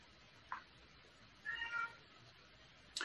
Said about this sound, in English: I've got a yowling cat I'm going to let outside.